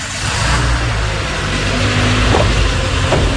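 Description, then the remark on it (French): A work car's engine revs and rumbles steadily, the low drone climbing slightly as the vehicle pulls away, with a couple of brief clicks or thumps near the end. “Je prends maintenant la voiture du travail.”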